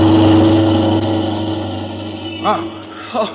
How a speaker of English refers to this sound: look at that car coming up the street, would you? Hey, Nick, watch out. That car is headed right at you.